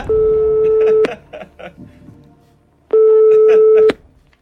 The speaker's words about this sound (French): Alors, vous savez, vous avez encore tous vos jokers, hein, si vous voulez qu'on lance un coup de fil à un ami. Oui. Ok, alors on y va, téléphone.